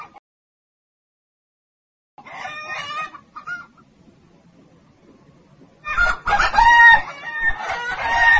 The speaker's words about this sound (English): Look at those ducks over there. Yes, let's feed the ducks. Have you got the bread? The ducks are coming now. They're hungry.